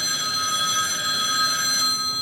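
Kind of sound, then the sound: signal or alarm, telephone bell ringing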